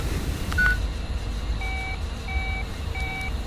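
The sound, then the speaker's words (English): Several evenly spaced electronic tone beeps, like keypad tones from a phone being dialed, over a steady low rumble. A short single blip comes first, then three clear, fairly loud tones. “That phone number is our only clue. Okay, Jack, no. You cannot risk it.”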